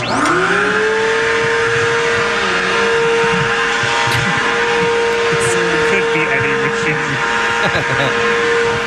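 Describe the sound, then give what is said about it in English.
A vacuum cleaner runs continuously with a loud, steady motor whine, a sustained mid-pitched tone over a broad rushing airflow noise, holding level for the whole stretch. “It's a vacuum cleaner.”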